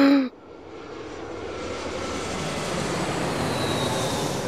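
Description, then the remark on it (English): A steady roar of an airplane engine at Moscow Domodedovo Airport, Russia, on a dark grey, freezing day in December 2006, builds and holds, loud and broad, after a brief sharp tone at the start, with a faint whine rising over the rumble. “Detective Inspector Brian Tarpey steps off the plane at Moscow Domodedovo Airport.”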